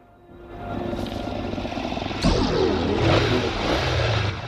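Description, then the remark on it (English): A motorbike engine is gunned as the bike spins its back wheel and charges forward, its throaty roar building steadily before surging louder about halfway through and holding at a strong, rumbling pitch to the end. “It guns its engine, spinning its back wheel and charges at him, forcing him to leap over the police bike for cover.”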